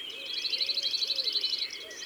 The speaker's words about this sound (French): Le bruyant zizi est un petit oiseau brun-jaune qui aime les lieux ensoleillés, les lisières, les clairières, les bosquets